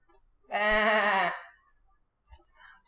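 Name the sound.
sheep bleating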